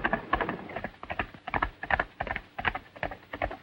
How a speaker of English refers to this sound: Outside, Zanti mounts his horse and gallops away.